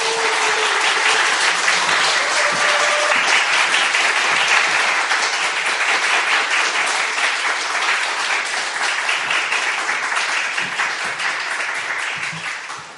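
Sustained applause from a church audience welcoming a guest pastor to the front, a dense crackle of many hands clapping at a steady loud level for about twelve seconds before tapering slightly at the end.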